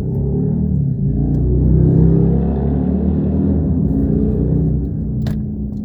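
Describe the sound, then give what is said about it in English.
A steady low engine rumble from a car beside the speaker, fitted with cameras in the back and front, holding fairly loud and constant throughout, with a brief sharp click near the end. “I got this car beside me.”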